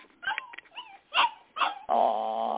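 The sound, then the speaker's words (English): A recording of a dog lets out a few short, high yips and whimpering whines, then ends on a louder, sustained howling bark. No one speaks. “Lorraine, have you got that? Dog. Can you play it?”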